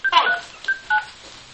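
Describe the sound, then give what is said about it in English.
Telephone touch-tone dialing into an automated phone menu: a few short, steady electronic beeps, each a pure dual-pitched tone, pressed in a quick irregular sequence with brief silences between. “So it took the touch tones.”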